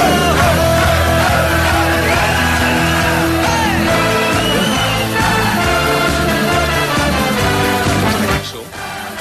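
A crowd shouts a loud chant together over a driving, full-band cover song, a shout that is not in the original song; voices and music stay dense until both cut off abruptly near the end.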